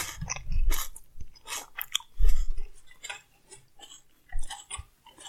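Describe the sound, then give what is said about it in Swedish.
Loud, wet open-mouth chewing of food, with smacking and crunchy bites in an irregular rhythm, heavy low thumps on the biggest bites. “Så ska vi se om det smaskar eller inte.”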